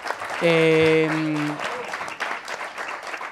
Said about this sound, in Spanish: Se acabaron los primeros 5 minutos. Perfecto. Gracias. Aplausos, por favor.